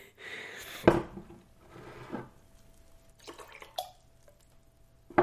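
Water is poured into a glass, a soft splashing trickle broken by a few sharp clinks of glass, with a faint ringing tone.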